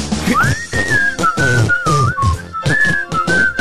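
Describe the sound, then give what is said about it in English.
A person whistles a bright, sustained melody, the tune gliding and wavering continuously over loud, steady instrumental music, the opening theme of the Penrod Radio Show, for the whole few seconds. “We're almost to the part of where I start to whistle.”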